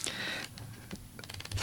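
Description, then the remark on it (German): Pages of a printed book of poems and miniatures are flipped: a soft papery rustle, then a quick run of light, crisp flicks as several pages riffle past. No voices. “Das ist schön, wenn man das Blättern auch noch hört. Im echten Buch, ja, kein Manuskript.”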